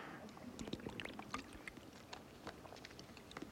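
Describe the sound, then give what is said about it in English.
A person drinks water: a run of soft, wet sips and gulps with small clicks and splashy swallowing sounds, irregular in rhythm and fairly quiet, with no talking. “We're first just going to read verse 1 through 3 after I drink this water.”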